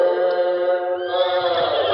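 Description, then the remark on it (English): A frightened horse whinnies shrilly, one loud, drawn-out, quavering cry that shifts in pitch partway through, with a rough, agitated edge and no talking. “Whoa there, whoa, steady. Now do you hear it? Even the horses are scared.”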